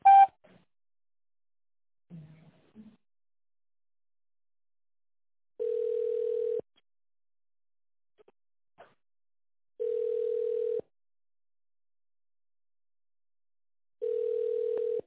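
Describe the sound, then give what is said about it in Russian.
A telephone line tone sounds three times, each a steady, even mid-pitched hum lasting about a second, repeating at regular intervals with silence between and a few faint clicks early on, on a call to the office of the company Za Sport, prompting tone dialing of an extension. “Наберите добавочный номер в тоновом режиме после сигнала или дождитесь ответа оператора.”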